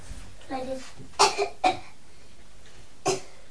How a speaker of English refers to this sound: Pardon? You're coughing. Coughing? I don't think so, am I?